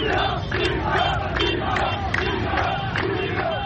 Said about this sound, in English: In Tripoli on Sunday, people shouted chants, echoing the protests that led to the rebellion back then.